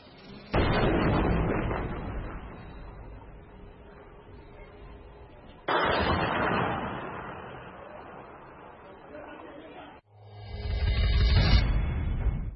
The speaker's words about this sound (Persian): وهابی ها توی همه زمینه های نظامی نابغن. مثلا استاد رهگیری و شناسایی و تمرکز روی سوژه های دشمنن و با انفجارهای بسیار بسیار دقیقشون ضربات مهلکی رو به دشمنشون وارد میکنن.